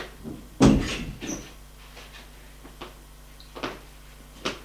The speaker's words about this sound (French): La porte s'ouvre. C'est la femme.